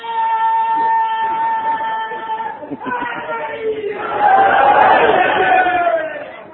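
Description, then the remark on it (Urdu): A crowd chants slogans in loud, sustained unison, then the voices swell into a louder, rougher roar of many people shouting together before easing slightly at the end. “آپ جتنے نعرے لگائیں گے اتنے ہی میرا وقت کم ہوتا چلا جائے گا.”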